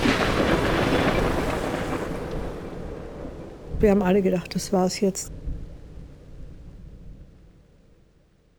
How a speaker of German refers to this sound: Er kauft sich zum Beispiel auch ein Boot und umsegelt damit Mallorca, während auf dem Meer ein Sturm tobt.